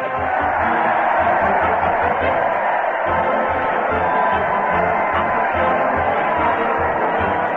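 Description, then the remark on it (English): A large crowd cheers in a dense, continuous roar as a big parade marches to the old Town Hall, holding steady throughout, with faint low rhythmic thumping underneath and no distinct voices standing out. “Listen to that crowd. They're cheering as the big parade marches to the old Town Hall with Fred Allen delivering punchlines to the crowd and the crowd delivering punches to the Mighty Allen Art Player.”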